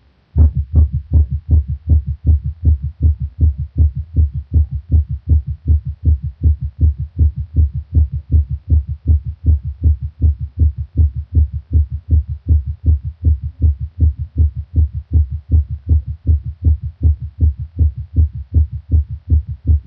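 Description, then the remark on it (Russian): A rapid, steady heartbeat recorded through a stethoscope from a patient with ischemic heart disease during a paroxysm of supraventricular tachycardia, with fast, evenly spaced low thumps repeating without pause over a low hum, moderately loud, no voices present. “Прослушайте запись, сделанную у больного ишемической болезнью сердца в момент пароксизма наджелудочковой тахикардии.”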